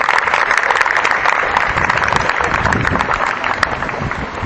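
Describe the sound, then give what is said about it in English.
A crowd claps steadily for several seconds, a dense, crackling wash of many hands at an even, fairly loud level with no voices breaking through. “Yes, a round of applause is due.”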